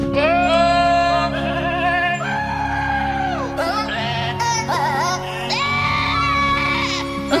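Small, dwarf-sized goats scream and bleat loudly, one wavering, strained cry after another filling the whole stretch over a steady low musical backing, with no talking.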